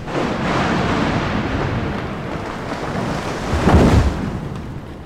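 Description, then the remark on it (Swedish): A steady, noisy rumble of thunder from lightning striking a tree outside rolls on with no voices, swelling into a heavier, deeper crash toward the end before easing back into the dull roar. “Hon såg också skymten av andarna i ljuset av blixten som slog ner i trädet utanför.”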